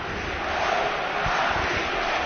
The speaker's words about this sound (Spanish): Partido del Depor, la grada grita con fuerza al Trinón